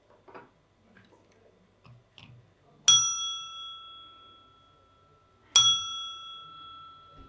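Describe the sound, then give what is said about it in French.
A small bell dings twice, a few seconds apart, each strike ringing clear and bright before slowly fading. Faint handling clicks and rustles come before the first ring. “Une sonnette.”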